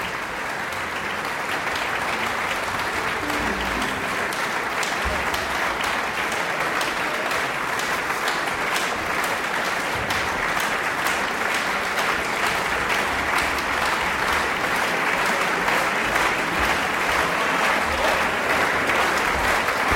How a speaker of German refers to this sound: Noch einmal lässt Matthias Pinscher das ganze Ensemble aufstehen vor dem, ja, frenetisch jubelnden Publikum. Bravo-Rufe hier im Mozartsaal der Donauhallen bei den Donaueschinger Musiktagen.